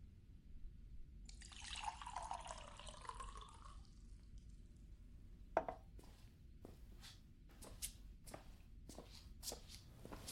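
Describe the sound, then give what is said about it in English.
A tap runs briefly for a couple of seconds for a drink of water, a steady hiss of pouring water. Then come soft footsteps and a few light knocks and clicks, fairly quiet, with no talking. “Water would be great.”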